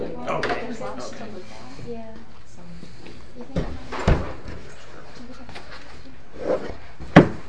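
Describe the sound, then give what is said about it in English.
A wooden door, already unlocked, being opened, with a few sharp knocks and clunks from the latch and frame, after some talking at the start. “Is that door open? Yes, I think it is. Unlocked.”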